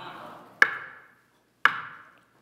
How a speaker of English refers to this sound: When you knock on somebody's door, what are you trying to do? Get their attention.